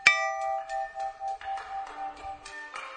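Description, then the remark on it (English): An old meat cleaver is struck sharply and rings out like a bell, its clear tone lingering as a series of lighter strikes at shifting pitches follows, with no voices. “When I was a boy, I found a meat cleaver in my dad's garage. When I struck it, it made a clear sound like a bell.”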